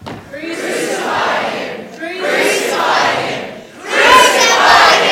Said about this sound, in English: But the crowd got louder.